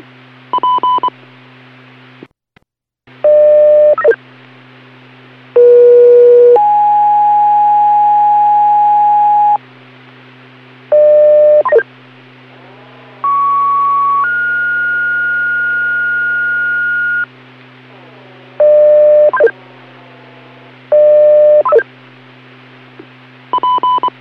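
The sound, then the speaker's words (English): Emergency dispatch paging tones for Hill Spring Creek, the second page: a series of steady electronic tone bursts at varying pitches, some long sustained tones and some short paired beeps, over a constant low background hum. “Hill Spring Creek, second page.”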